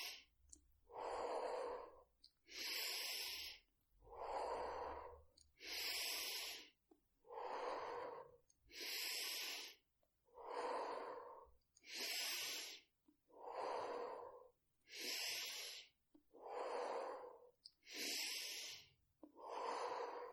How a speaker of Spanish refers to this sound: Inhala, exhala, inhala, exhala. Inhala, exhala, inhala, exhala, inhala, exhala, inhala, exhala. Sigue respirando a este ritmo marcado por mi propia respiración.